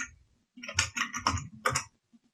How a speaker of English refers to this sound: Now, when I open JAWS this time, my QBraille should automatically connect to JAWS. I'm going to open JAWS again now by pressing the Windows key and typing JAWS, then hitting Enter.